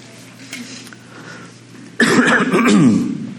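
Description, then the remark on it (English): A quiet, low hum gives way to a loud, raspy throat clearing, a harsh guttural burst lasting over a second with no talking. “I'm just clearing my throat.”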